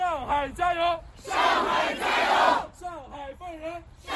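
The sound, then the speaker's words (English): A crowd of protesters in Beijing shouts in unison, shouting support for those arrested at protests in Shanghai; rhythmic chanted bursts give way to a loud, sustained roar of many voices before the chanting resumes. “They shouted support for those who protested and were arrested in Shanghai earlier over the weekend.”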